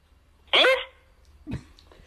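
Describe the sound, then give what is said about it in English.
A dog barks twice: one sharp, loud bark, then a shorter, softer bark about a second later, with no talking. “Your dog!”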